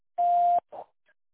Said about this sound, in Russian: Для этого скажите «да» после звукового сигнала, и мы отправим вам СМС с ссылкой для записи.